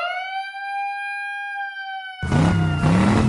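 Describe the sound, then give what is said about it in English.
A loud, steady siren sound effect wails for about two seconds, then cuts abruptly into a dense burst of noisy, rumbling sound that runs to the end. “The show started out with Daniel Bryan and Mustafa Ali in a match that hit the siren.”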